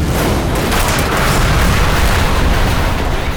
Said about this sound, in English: Explosive mini MIRV missiles, M&M&Ms as Randy calls them, slammed into the bots, shattering them on contact.